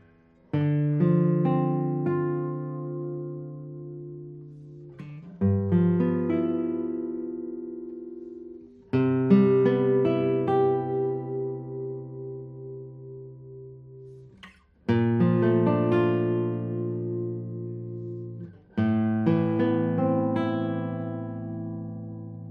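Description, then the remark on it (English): An acoustic guitar with a spruce top, cocobolo back and sides and Alessi tuners is played alone in five separate phrases of plucked, ringing chords and notes, each starting firmly and slowly fading, with no voices. “Well, let's play a few tones on it.”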